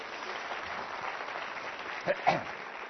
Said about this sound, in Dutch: Geef ze even een applaus.